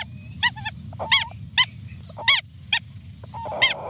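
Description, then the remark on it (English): A pair of birds, a male and a female, call back and forth in short, honking bursts, while a harsh, static-like crackle from the male rises underneath as he walks in circles around the female, all over a steady low rumble of background noise. “The radio static sound is the male, and he's sort of walking around in circles around the female.”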